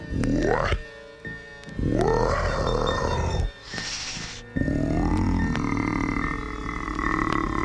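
A voice imitates the deep, heavy, rhythmic breathing of a sleeping giant: loud, low, growling exhales with rising groans, broken by a breathy hissing inhale, in a slow rhythm.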